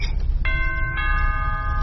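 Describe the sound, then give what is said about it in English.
A doorbell chimes twice, two bright tones a half-second apart that ring on and linger, with a steady low rumble of room noise underneath. “The sweet chime of desperation.”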